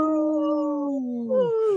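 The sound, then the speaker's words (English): People on a radio show in Minnesota howl for the wolves, imitating a wolf howl with long, steady voiced tones that slowly slide downward in pitch. A second, brighter howl joins near the end and also falls away, fairly loud throughout. “if you will join me in a quick howl”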